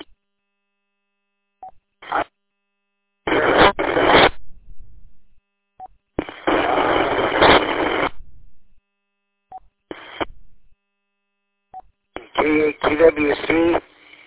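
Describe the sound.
Loud bursts of hissing radio static, separated by brief silences and small clicks. The last burst carries a faint, garbled, voice-like warble buried in the noise.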